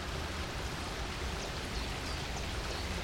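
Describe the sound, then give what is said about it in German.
Steady rushing of a mountain stream coming down from the mountain above the municipality of Erstfeld, water flowing continuously with a dense, even hiss and low rumble, constant throughout, with no voices. “Das Wasser, das von einer kleinen Seele namens Bocki vom Berg oben herabkommt, ist also das Blut in den Adern der Gemeinde Erstfeld.”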